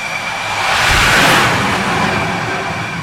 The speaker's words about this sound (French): Et quand les deux avions sont prêts, à l'heure dite, eh bien, on est catapulté du porte-avions.